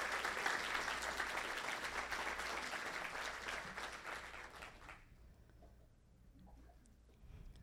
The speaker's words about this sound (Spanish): Quiero aprovechar este momento para que aplaudamos a los servidores, porque sin ellos no sería posible esta iglesia, ¿no es así?